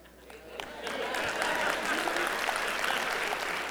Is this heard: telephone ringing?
no